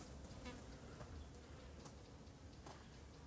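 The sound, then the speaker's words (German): Flies buzz faintly and steadily outdoors near a cow pasture, a low continuous drone with a few brief, slightly louder passes, and no voices. “Wir können auch den Schein wahren und so tun, wenn es Bienen wären, aber in Wirklichkeit sonst fliegen die um irgendwelche Scheiße herumfliegen.”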